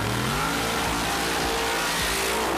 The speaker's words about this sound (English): A slightly more fun way to experience extreme sound is watching Top Fuel drag racing vehicles do their thing.